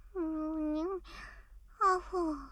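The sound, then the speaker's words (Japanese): A person yawns while asleep: a sleepy, drawn-out, long, steady voiced 'aah' that ends in a breathy exhale, followed by a shorter falling vocal sigh. Moderately loud, with no other sounds around it. “どうして寝ながらあくびするんだよ。”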